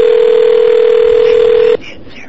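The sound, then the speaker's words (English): A phone keypad button tone as the zero key is hit again: one loud, steady, mid-pitched electronic beep held for almost two seconds, then cut off abruptly, leaving only faint background hiss. “I can say, oops, I'm sorry, I hit it again.”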